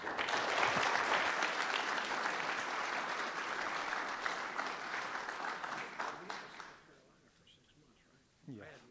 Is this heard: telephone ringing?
no